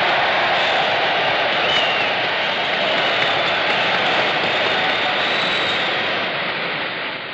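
A large convention crowd stands and cheers and applauds for Mrs. Wilkie in one loud, continuous roar that holds steady for several seconds before easing slightly at the end, with no voices standing out.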